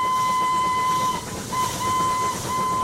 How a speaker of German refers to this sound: 1808, in dem Jahr, in dem Thomas Cook geboren wurde, ließ der Erfinder Richard Trevithick in London eine dampfbetriebene Lokomotive auf eisernen Gleisen im Kreis herumfahren. Die Menschen strömten herbei, um sie zu bestaunen.